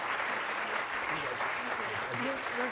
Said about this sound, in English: Please join me in a round of applause for all of our speakers.